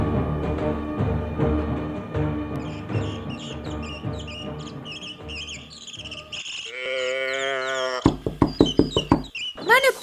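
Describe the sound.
A quick series of about six firm knocks on a wooden door rings out near the end, following a stretch of soft music and a brief voice.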